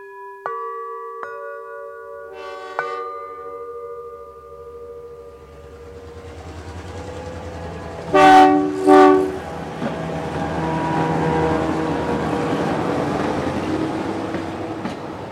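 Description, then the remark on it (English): A diesel night train engine drones steadily, with a low rumble and rattling carriages building up, while two loud horn blasts sound midway through. “In the night train, the diesel drone mixes with the rice fields and the forests of bamboo.”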